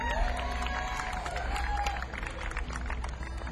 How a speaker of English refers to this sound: On the mandolin. Big round of applause for Mr. Benjamin Hernandez.